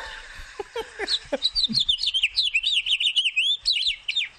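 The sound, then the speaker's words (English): A male Guyanese finch sings a fast, continuous song of bright chirps and warbling trills, loud, opening with a few sharp calls before settling into a rapid, rhythmic run of notes. “In what parks are Guyanese finches having singing competitions?”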